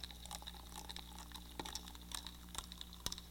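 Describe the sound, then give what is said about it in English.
Hot water poured onto coconut powder in a quiet, steady stream, with occasional small splashes and drips breaking through a soft continuous trickle. No one speaks. “Yeah, we would add hot water to it.”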